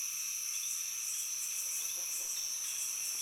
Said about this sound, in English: Start to notice the sounds and aromas of the plants and animals around you. Insects and birds.